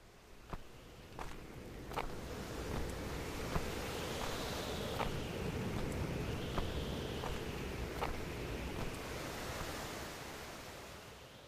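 A steady, rushing roar of ocean surf where Tsugaru Strait and Pacific waves meet at Cape Shiriyazaki on the Shimokita Peninsula, Aomori, Japan, with crisp footsteps of one person walking at an even pace along a walkway over the constant wash of waves, on a cold, windy, foggy December day.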